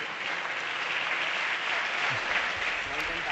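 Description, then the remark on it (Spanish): Sustained standing applause from all the Unidos Podemos deputies in parliament after a speech by Alberto Garzón, a dense, steady crackle of many hands clapping at even loudness throughout, with no voices standing out above it. “Hasta aquí la intervención de Alberto Garzón, muy aplaudido también por todos los diputados de Unidos Podemos puestos en pie.”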